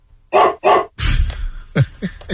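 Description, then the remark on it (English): A female dog in a TV studio barks twice in quick succession, loud, followed by a noisy scuffle and a few shorter, softer yips trailing off. “That's the bring your dog to the work day? She's a good dog, too.”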